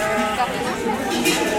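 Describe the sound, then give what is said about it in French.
A large flock of ewes bleating all at once, many overlapping calls forming a dense, continuous outdoor chorus, as breeders with people and sheepdogs take them to pasture on the cirque de Campulse, vallée de Bettemal, Ariège. “Alors, il y a des gens, des chiens de berger et beaucoup, beaucoup de têtes de brebis.”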